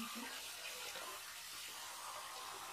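water splashing

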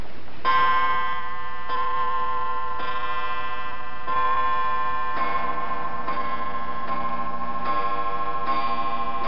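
clock striking midnight

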